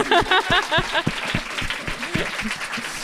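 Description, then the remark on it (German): An audience breaks into applause for someone from Switzerland, with a dense wash of clapping and a few voices whooping at the start, holding steady for about three seconds before easing off slightly. “Ein Applaus für die Schweiz.”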